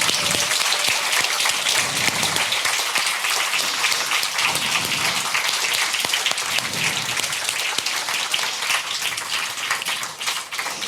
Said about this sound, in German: Bei denen wollen wir uns einmal mit einem ganz großen Applaus bedanken.